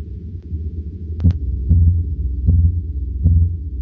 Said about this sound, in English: you know, I forgot to play the Blue Whale. I don't know if you can hear it unless you have good speakers. You won't hear the lows, but let me play this low frequency of the Blue Whale.